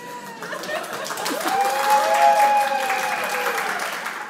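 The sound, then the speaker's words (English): A crowd breaks into steady applause, a dense patter of many hands clapping that swells slightly in the middle, with a few voices and whoops rising above it. “My notes say, pause briefly for wild and enthusiastic applause.”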